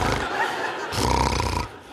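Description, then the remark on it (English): A man fakes snoring while pretending to be asleep in bed, with two loud, rasping snorts, each a rough, throaty rumble drawn out over a breath, with no talking. “I started snoring.”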